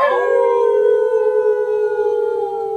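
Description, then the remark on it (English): Several voices howl together in imitation of dogs, a loud, sustained, slightly wavering mid-pitched tone held for nearly three seconds without any talking. “Just go ahead and howl.”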